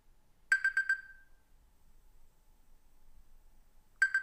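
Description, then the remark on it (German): An alarm clock sounds a quick burst of four shrill electronic beeps, falls silent for about three seconds, then starts beeping again. “Ja, was ist das? Ach, nur der Wecker. Schnell aus mit dem Ding.”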